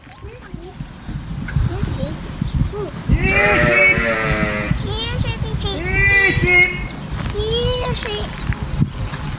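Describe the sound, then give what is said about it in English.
Sheep on a farm bleat several times in wavering, drawn-out calls, some overlapping, while people talk over a low outdoor rumble. “you're just going to get an idea of the simplicity and the joy of farming, and specifically sheep”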